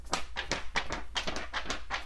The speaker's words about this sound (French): Je frotte. On va présenter des petites choses de ma maison. Par exemple, une feuille.